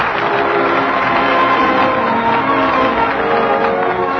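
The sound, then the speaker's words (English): Steady, dense studio audience applause at a Lux Radio Theater broadcast from Hollywood, a continuous wash of many hands clapping at an even loudness throughout, with faint crowd murmur mixed in and no one speaking. “That applause is the people's answer.”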